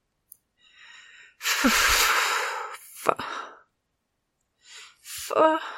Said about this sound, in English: Giddy with lust, I leant back into the wall, eyes closed, panting.